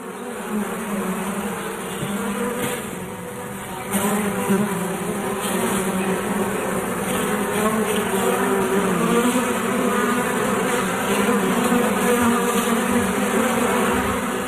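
A dense swarm of bees in a home in Santee, California drones steadily and loudly throughout, a thick continuous buzz with shifting layers of wingbeats and no voices.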